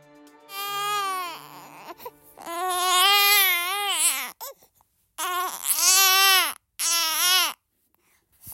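A young baby wails in several loud, high-pitched bursts, each cry rising and falling with short gasping pauses between them, close up and with no one talking.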